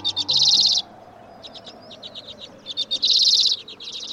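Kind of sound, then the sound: bird, common redpoll calls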